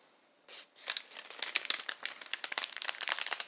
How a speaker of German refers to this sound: Ja, das Feuer, das knisterte vor sich hin.